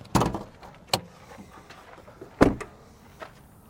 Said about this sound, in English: Let me pop the hood really quick. Okay. Let me see.